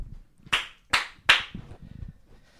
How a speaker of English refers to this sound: Thank you. I like that one clap.